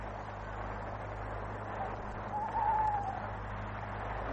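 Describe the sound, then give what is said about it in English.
A single owl hoot in a churchyard, a short, wavering tonal call, rises faintly over a steady low hum and background hiss. No one speaks. “Even the owl is one of them.”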